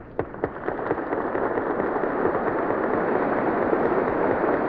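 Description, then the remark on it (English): A large crowd breaks into applause, a few sharp individual claps at first quickly swelling into a dense, steady roar of clapping that holds loud and unbroken, with no voices over it: members of the House and Senate standing and applauding as the President of the United States proceeds down the aisle. “The President is proceeding down the aisle as the members of the House and Senate are standing and applauding.”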